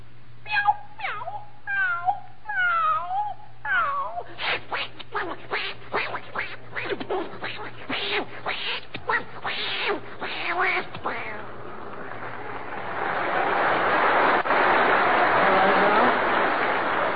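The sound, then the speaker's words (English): Several voices yowl, screech and meow over one another in a mock cat fight, with rapid wavering cries for about ten seconds, and a loud burst of noisy clamor follows. “Now, for the benefit of the household pets of our listeners, let's have a cat fight.”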